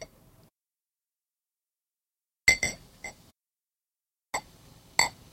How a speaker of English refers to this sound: Yes, I'm intentionally clinking the bottle on the glass while I pour it, so there's a sound effect.